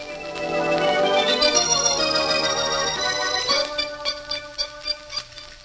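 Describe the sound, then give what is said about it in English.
A chorus of many different kinds of old clocks from a collection ticking out of step, the overlapping clicks growing clearer as sustained ringing chime-like tones fade away in the first few seconds. No one speaks. “I've never seen so many different kinds of clocks in one place before, outside of a store.”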